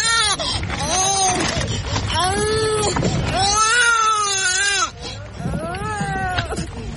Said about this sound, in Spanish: Explícale a los oyentes, Lucía, por qué se sonaba el llorar de varios bebés en esas colas. Es un banco de alimentos, por decirlo de una manera, bueno, no quiero decir banco de alimentos, es dedicado a padres que tienen bebés